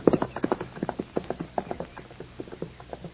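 Horse hooves clip-clop in a quick, steady rhythm, each hoofbeat a sharp knock, continuing throughout with no voices.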